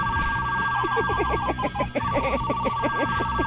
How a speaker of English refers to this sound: Is that the fart phone? Yeah. Was that the fart phone? That was the fart phone. I want to hear that again. It's the fart phone. Oh, God. Oh, my God, the fart phone.